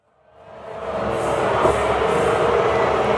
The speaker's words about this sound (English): Oh, because she got booed. Not a sound … is used to. Booed the shit out of her.